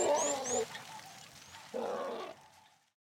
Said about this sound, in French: Oh, il est trop mignon, ce bébé éléphant. Oui, trop mignon.